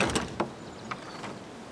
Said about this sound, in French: Notre héroïne pousse les grandes portes de sa nouvelle destinée.